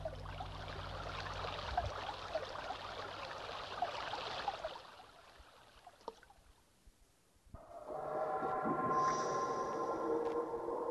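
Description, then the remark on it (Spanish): Water from a stream in Uruguay rushes and babbles steadily for about five seconds, fades to near quiet, then gives way to a louder sustained droning hum with tonal overtones. “Centenares de arroyos y de ríos, miles de pequeñas corrientes.”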